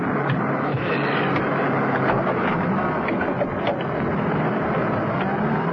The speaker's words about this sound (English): The men departed to their various vans. They boarded them, the engines started up, and the vans pulled off. To the casual bystander, it was merely a fleet of window-cleaning vans off to a rather big job.